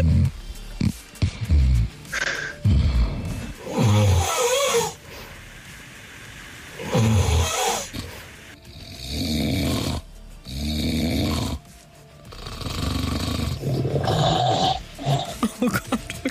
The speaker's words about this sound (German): Nee, im Ernst, also was wir in den letzten Tagen gehört haben von ihren Schnarchereien, also ich mach mir wirklich ein bisschen Sorgen.